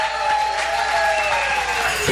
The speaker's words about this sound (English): And, of course, a big thank you to our live audience here at Zingerman's. Give yourself a round of applause, everybody.